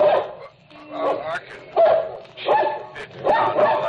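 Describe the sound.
A dog barks repeatedly, about five loud barks at a steady rhythm with short gaps between them, and a person's voice is mixed in among the barks.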